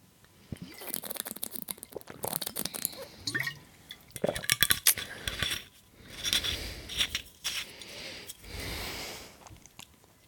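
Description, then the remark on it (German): Clinks of a glass and bottle, then a stretch of water pouring followed by a few swallowing gulps, with light handling noise and no one talking. “Ich glaube, die meisten, die auch Sodbrennen oder ähnliches haben, wissen, was für Wasser ich trinke. Und ja, Prost.”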